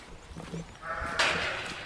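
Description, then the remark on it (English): Dairy sheep from a 300-strong flock at the Flanagan Farm in Rockfield, County Mayo, bleat loudly on a sunny day, a sustained wavering cry rising out of soft background noise and continuing to the end of the short clip, with another animal joining partway through. “I paid a visit to the Flanagan Farm where Michael, Aisling and their family make Velvet Cloud yoghurt and Rockfield cheese from the milk of their 300-strong flock of dairy sheep.”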